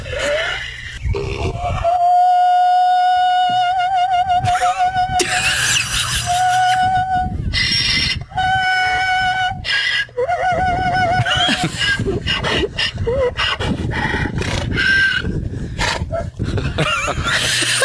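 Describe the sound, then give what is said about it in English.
A female donkey in a field, known as the opera donkey, brays at a man walking by in long, high, wavering notes, several sustained calls in a row with a warbling, almost sung quality, loud throughout with breathy gasps between them. “People are calling her the opera donkey.”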